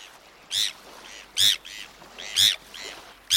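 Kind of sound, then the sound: bird, bonaparte's gull calls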